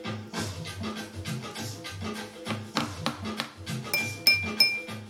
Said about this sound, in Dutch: En het oermoederhart gaat nu roffelen en trommelen. Doe maar mee op tafel of met een glas of een kopje of een lepeltje.